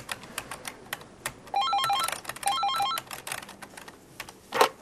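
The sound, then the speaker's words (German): A phone in an office rings twice with a bright warbling electronic trill, each burst lasting about a second, over steady rapid keyboard typing that clatters throughout; no one speaks. “3 Stunden mit Mama telefonieren, private Telefongespräche.”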